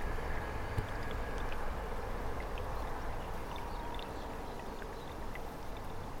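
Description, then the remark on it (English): A steady, dense wash of outdoor noise: road traffic, a rushing river and a train, all in close proximity, blend into one continuous rumbling roar, with a deep low-end drone and no voices. “So noisy up here with road, river and train in close proximity.”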